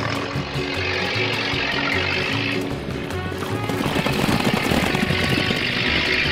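A car engine runs loud as the car is driven off fast in an escape, its low droning hum stepping up and down in pitch beneath a dense, rushing layer of noise, with no one talking.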